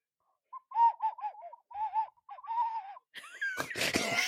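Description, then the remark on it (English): An ocarina plays a short tune of about ten breathy, wavering mid-pitched notes with little slides between them. Near the end, a loud, harsh, noisy burst cuts in and overwhelms it. “So when you were playing the Ocarina, it sounded like”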